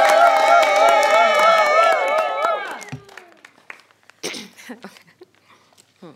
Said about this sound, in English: All right, a round of applause.